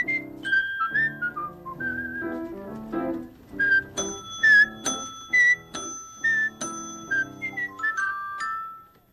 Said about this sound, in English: Why, you sound happy. I'm a whistler today. Is that what you are today?